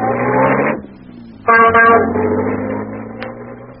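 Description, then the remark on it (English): An ancient taxi of the kind that carries tourists, driving to the Taj Mahal: its engine drones and rumbles steadily at a low pitch, broken by a couple of loud, blaring horn-like bursts near the start and middle before the rattle settles back. “So I hailed one of the ancient and unlikely taxis that paid the tourists.”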